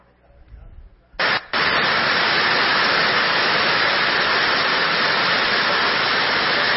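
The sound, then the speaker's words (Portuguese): Heavy rainwater from outside pours down inside a covered market, where the roof cannot carry the water, in a dense, steady roar that bursts in abruptly after a brief murmur of voices, briefly breaks, then surges back and continues loud and unbroken. “A feira toda coberta e no mesmo instante toda molhada, porque ali não suporta a queda da água.”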